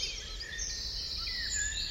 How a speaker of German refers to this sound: So, das ist jetzt eine Minute Vogelgezwitscher.